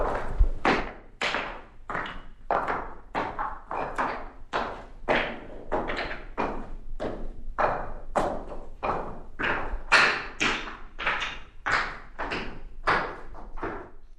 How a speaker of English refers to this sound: they shuffle slightly and click-clack on the tile floor, which is quite live acoustically